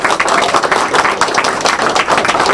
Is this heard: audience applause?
yes